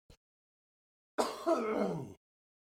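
human body sound, coughing and throat clearing

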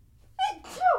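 human body sound, sneeze

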